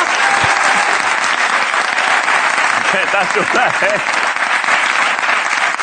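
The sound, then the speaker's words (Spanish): A programme's audience applauds itself steadily and loudly throughout, a dense unbroken wash of clapping with a few scattered voices or brief cheers rising over it midway. “Vale, muchas gracias, un aplauso para vosotros mismos, por favor.”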